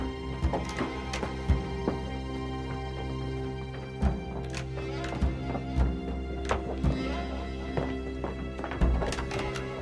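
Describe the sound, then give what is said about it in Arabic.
Hooves clop irregularly over a steady low rumble, with a horse neighing and whinnying now and then; the sounds are fairly loud, and no one speaks. “لا لا، فخ العربة خطر كبير سيدي، امتط الحصان وسر على طرق مجهولة.”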